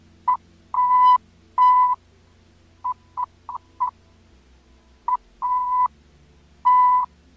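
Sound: morse code telegraph beeps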